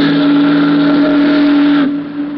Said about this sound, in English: the Missouri Queen steamed majestically down the broad channel of the river. It was a night that was dark and moonless. The big boat's doleful whistle and the rhythmic churning of her huge stern wheel were the only audible sounds.